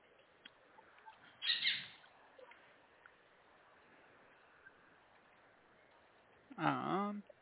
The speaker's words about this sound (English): Yes, her name's Daisy, the little parrot. She's a sun conure. She's a little rescue, and one of our birds got hold of her.